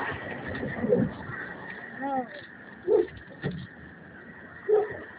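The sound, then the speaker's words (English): A dog barks in short, separate bursts, about four or five sharp yaps spread irregularly over a few seconds, against a noisy, muffled background with a faint murmur of voices. “Oh, hush, you're starting to be barking.”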